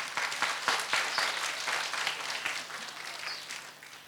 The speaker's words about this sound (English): Clap for me.